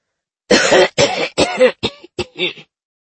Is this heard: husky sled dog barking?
no